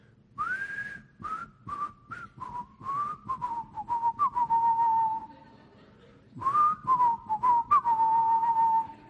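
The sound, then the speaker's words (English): A person whistles a bouncy, familiar melody, the notes gliding and repeating in short phrases, with a brief pause before the tune picks up again. “I'm going to see if I can whistle this, but you know this tune.”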